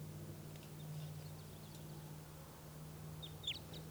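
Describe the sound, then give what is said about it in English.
Faint crossbill type 2 calls from bird 387 in the background, a few short, high, downslurred chips, with one clearer pair of notes near the end, over a steady low hum. No one speaks. “Nothing, that other type 2 in the background is bird 387.”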